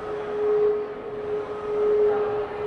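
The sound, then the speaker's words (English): A coal mine whistle at the coal mine exhibit inside a museum sounds one long, steady, mid-pitched tone that holds unbroken for the whole stretch, riding over a soft rumbling background wash. No one speaks. “Oh, that was the coal mine. The coal mine? Yes, our coal mine whistle.”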